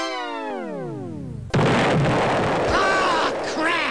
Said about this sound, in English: Well, the time had come for them to be demolished. Crowds gathered and down they came, taking with them the electric supply to 40,000 local houses.